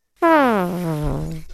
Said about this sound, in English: Who burped?